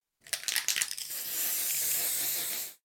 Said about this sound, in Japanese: 私は大丈夫。クマ用スプレーも持っているの。ほら！